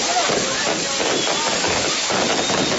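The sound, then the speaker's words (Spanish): Firecrackers (voladores) sound effect: a dense, steady rush of hissing and crackling noise that runs without pause for the whole few seconds, with faint whistling streaks near the start. “Por eso le pedí a Mario que pusiera los voladores.”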